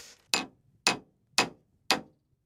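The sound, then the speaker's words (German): A nail is hammered with a glass dildo: four sharp, bright knocks in a steady rhythm about half a second apart, fairly loud, with quiet between strikes and no talking. “Wollen wir mal die Nagelprobe versuchen? Oh ja, Nageln, geh mal her.”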